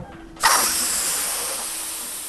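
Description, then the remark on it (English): A helium balloon being filled: after a brief quiet moment, a loud, bright hiss of gas bursts on and holds steady, slowly easing off over the next two seconds. “That joyous sound of helium balloons inflating may be limited this holiday season.”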